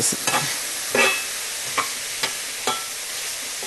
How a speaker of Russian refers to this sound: Так, давайте помешаем, чтобы у нас не подгорело.